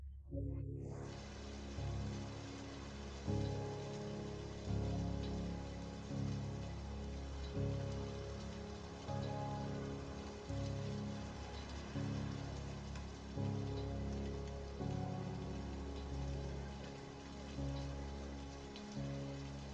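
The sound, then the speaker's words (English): Steady rain falls without letup, a dense, even wash of drops over a low, droning rumble. No voices, just the continuous rainfall at a moderate level throughout. “Soon you find a tunnel to take shelter in, and as you watch the rain fall without ceasing.”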